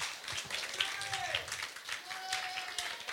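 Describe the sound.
An audience applauds with dense, steady clapping at a moderate level for a few seconds, with faint voices or cheers mixed in.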